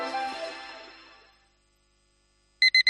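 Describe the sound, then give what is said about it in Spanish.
A bright tone rings out and slowly fades to silence, then an alarm clock starts up with three quick, loud electronic beeps. “Pasarse al Seat León híbrido con Seat Flex es tan fácil como posponer la alarma.”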